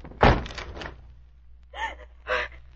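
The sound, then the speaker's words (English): A door is forced open with one loud, heavy crash that rattles briefly, followed by two short, breathy gasps. “Try to force the door open quickly.”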